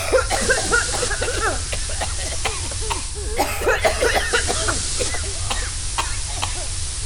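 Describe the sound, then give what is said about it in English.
Several crew members cough and choke in overlapping, ragged bursts after an aromatherapy system dumped nearly every scent into the ventilation system, fairly loud, with a constant hiss of air underneath throughout. “led the coughing, choking crew to the doctor's lab”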